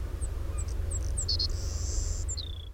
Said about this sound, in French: Et puis finalement, quelques semaines plus tard, on a réenregistré le même oiseau. Et puis ça a donné ce chant-là qui est très classique.